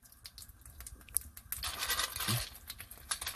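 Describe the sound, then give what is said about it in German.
Dry crunching and crackling, a few sharp snaps at first, then a denser stretch of brittle crunches as edible toothpicks, a snack from South Korea, are chewed. No voices. “Das knuspert. Wie gemerkt, das sind Zahnstocher.”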